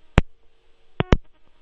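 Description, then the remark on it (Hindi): A caller's phone line drops, giving a few short, sharp electronic pulses, one alone and then two close together, over a faint steady hum, like a disconnected call's busy tone. “मेरा ख्याल है उनका फोन कट गया”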